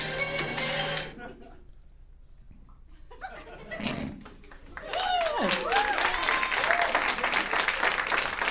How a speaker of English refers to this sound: I'd also like to point out that you don't have to clap if you don't feel like it. I think they felt like it, and I don't think they would have had they not. I think they're happy it's done.